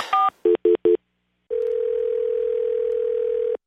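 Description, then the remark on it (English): A phone number is dialed to call someone: a quick run of short electronic touch-tone beeps, then a pause and a long, steady, fairly loud tone that holds for about two seconds. No one speaks. “Okay, let's see if I can get this guy on the phone.”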